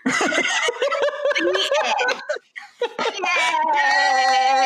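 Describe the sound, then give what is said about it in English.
A person makes a loud whinnying noise imitating Fantasy, a stubborn black and white horse, neighing: a shaky, wavering cry lasting several seconds with a brief break in the middle. “So fantasy just neighed.”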